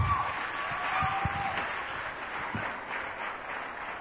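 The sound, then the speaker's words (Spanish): An audience breaks into sustained applause for the Lord, a dense crackle of many hands clapping steadily for several seconds, with a few brief voices and whoops rising through it. “Otro aplauso para el Señor, que nos lava más blanco que la nieve.”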